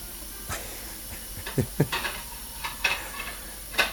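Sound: washing dishes and cutlery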